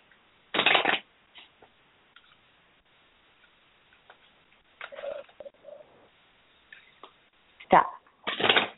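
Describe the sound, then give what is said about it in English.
A deck of cards being shuffled before a card is pulled for a reading, in several brisk, rustling bursts separated by quieter pauses, with the last few shuffles coming quickly one after another. “let's go ahead and pull a card for you around this”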